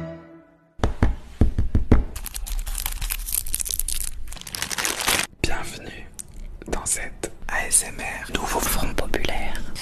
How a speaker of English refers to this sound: That is the sound of ASMR electioneering.